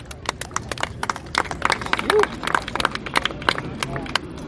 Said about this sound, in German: Vielleicht schon mal einen Applaus für die beiden Autorinnen von den Blautoren.